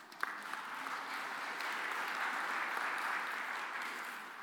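An audience breaks into steady applause for a woman present among them, a dense wash of many hands clapping at an even level throughout, with no voices standing out.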